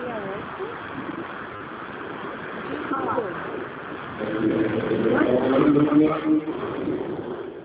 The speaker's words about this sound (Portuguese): Passou um carro aqui.